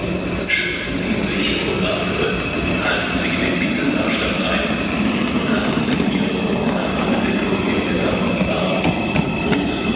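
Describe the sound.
Steady, busy main railway station ambience: a low rumbling train moving past with faint metallic squeals, and indistinct voices murmuring underneath throughout.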